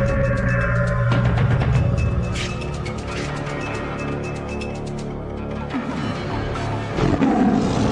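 A tiger roars and snarls loudly and continuously for several seconds, deep rumbling growls surging in waves with brief pauses, with no talking. The tiger is fighting Zhou Chu on Nanshan (South Mountain).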